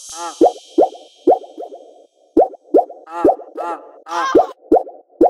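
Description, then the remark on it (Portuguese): Water splashes and plops about a dozen times at an uneven pace. Each is a sharp wet hit with a brief bubbly ring, and a bright hiss of water sounds at the very start. “Olha o barulho da água.”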